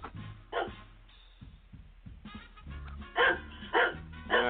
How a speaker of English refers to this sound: Let me see if I got Ted barking here. Yeah, there he is. Okay, Ted. Bark for me, babe. There's Ted.